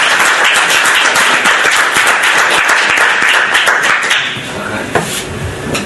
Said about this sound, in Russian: Так, ну, аплодисменты. Вам спасибо.